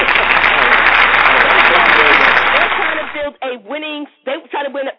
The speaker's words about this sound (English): Salute that. Applaud that. I don't know what that meant. But hit the applause button for that.